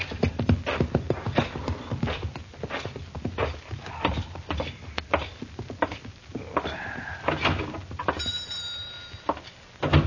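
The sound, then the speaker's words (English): A horse's hooves clip-clop steadily on hard ground, an irregular run of sharp knocks over about ten seconds, with a faint whistling tone near the end. “Take my horse out of the stable, will you, huh?”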